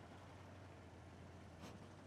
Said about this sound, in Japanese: 最後までムードも何もありませんね。こんな戦車の騒音の中で。